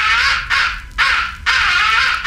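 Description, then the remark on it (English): A crow roost call blown on a handheld call: four loud, raspy caws in quick, steady succession, nearly continuous, with no talking. “the final essential call is the roost folks. Call. It is a deadly soon. Call. Use it when you're in a roost or near a roost in the late evening and crows are coming in.”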